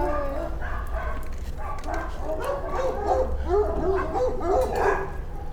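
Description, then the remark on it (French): Several dogs bark and yip continuously at an animal shelter, overlapping one another at moderate loudness with some whimpering, over a steady low background rumble. “Donc à l'heure actuelle, nous n'avons que des chats et des chiens à l'adoption dans notre refuge.”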